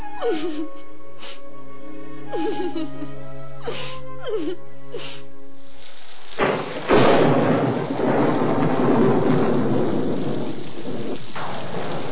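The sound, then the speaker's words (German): Orchestral music with falling melodic swoops plays for about six seconds, then a loud wash of heavy rain and rumbling thunder from a wild, stormy October night takes over and fills the rest without letup. “Die Welpen trafen während einer wilden, stürmischen Oktobernacht ganz pünktlich ein.”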